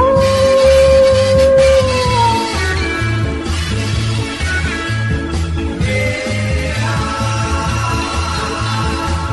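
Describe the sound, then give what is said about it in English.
Drawn-out, wavering howls like wolves rise and slide downward, one long call near the start and another later, sounding over a steady rhythmic thumping background. “They're howling, they're in good voice.”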